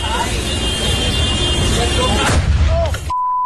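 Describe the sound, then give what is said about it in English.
A car explodes in Melbourne after oxygen tanks in its boot blow up, amid a roar of chaotic noise and shouting voices, with a sharp blast near the end before everything cuts off to a steady high beep. “I have the audio here of this guy's car exploding.”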